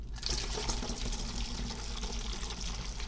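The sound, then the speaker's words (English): A steady stream of hot tea pours into a teacup, a continuous splashing hiss that holds evenly for a few seconds with no voices. “We grab the other cup and start pouring.”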